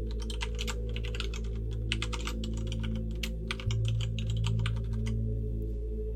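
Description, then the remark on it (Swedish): Rapid, uneven clicking of computer keys in bursts, steady and moderately loud over a constant low rumbling hum, with short pauses between flurries of typing and no voices. “och på bussresan så börjar hon googla igen.”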